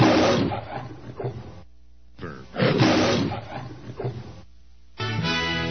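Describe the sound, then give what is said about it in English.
A loud lion roar with deep growling bursts, rising and falling in two long surges with a short gap between, followed by a final harsher burst, heard with the station identification for The Lion, KHNC 1360 AM, Johnstown, Denver. “This is The Lion, KHNC 1360 AM, Johnstown, Denver.”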